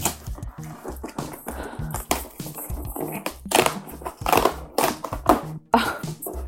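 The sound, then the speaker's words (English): A cardboard package box marked fragile, handle with care, holding long-stemmed wine glasses, is opened: irregular bursts of scraping, tearing and crinkling rustle, with a few sharper rips toward the end, with no one speaking. “It says fragile, handle with care. Should I open it?”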